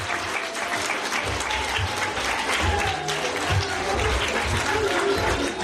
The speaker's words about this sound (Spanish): ¡Un fuerte aplauso!